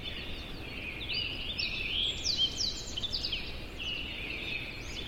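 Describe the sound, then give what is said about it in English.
A dawn chorus of birds in Yosemite National Park, recorded in surround sound: many birds sing and chirp at once in a dense, overlapping chorus of high tweets and trills over a steady low rumble of outdoor ambience. “Well, this is one of Dan's recordings of a dawn chorus of birds in Yosemite National Park.”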